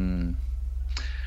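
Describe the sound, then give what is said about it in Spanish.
A brief tonal, voice-like sound fades out, then a single sharp, metallic scissor snip rings out with a short bright tail, over a steady low hum, in a show's jingle that introduces clips. “pasa la cortinilla esta famosa que hay unas tijeras que hacen su función.”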